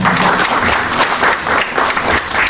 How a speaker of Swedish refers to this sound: Ni som ska applådera att vi kommer tillbaka varje gång också.